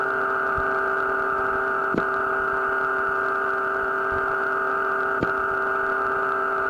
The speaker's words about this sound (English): You just heard two breaks in the modulation tones. Anyway, the tone experiment proved to be not as successful as we both had wished, but there were more things to come.